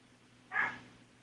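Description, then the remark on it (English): A single sharp dog bark rings out once over a faint, steady low hum, brief, with quiet before and after; the dog is barking at a raccoon at the door waiting to be fed. “My dog is barking at the raccoon that's at the door waiting to be fed.”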